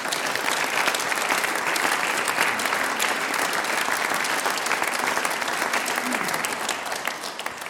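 Sustained audience applause, a dense wash of many hands clapping steadily and loudly for several seconds, easing off slightly at the very end.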